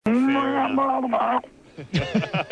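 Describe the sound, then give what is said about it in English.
A person does a long, drawn-out imitation of a drowning cow's moo, loud, wavering and gurgling before breaking off; a short burst of voiced sounds follows. “Have you ever drowned a cow, …? Oh, I have actually.”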